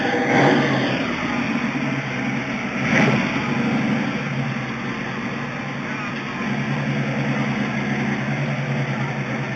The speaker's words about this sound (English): That would be a Mustang Boss 302 Fastback. I'm at the Cars and Coffee event in Irvine, California.